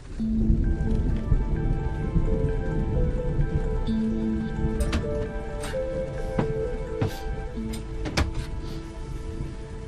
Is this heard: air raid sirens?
no